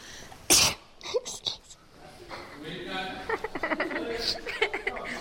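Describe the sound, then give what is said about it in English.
One sharp, loud sneeze bursts out near the start, followed by a few short breathy sounds and then people talking. “I didn't sneeze on you.”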